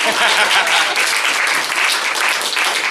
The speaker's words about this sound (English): I mean that 100%. You're supposed to clap there. You guys have no souls.